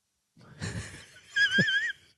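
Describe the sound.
A voice imitates heavy, wheezing breathing right into the microphone: two long, raspy breaths, an inhale then a harsher exhale, loud, with no talking.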